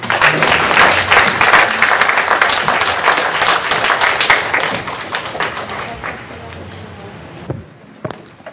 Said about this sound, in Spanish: Nos acompañan de Chihuahua, Chihuahua. La práctica es el pranayama egipcio. Un aplauso para recibirlos.